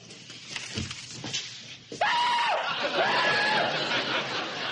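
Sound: people yelling loudly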